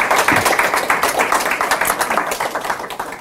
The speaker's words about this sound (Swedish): Välkomna upp. Ta en varm applåd där också tycker jag.